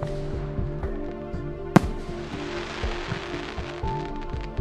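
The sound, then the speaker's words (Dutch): A single sharp firework bang cracks out near the middle, loud, over a steady pulsing low thump and faint crackling that continue throughout. No one speaks. “Of later kwam dat vuurwerk.”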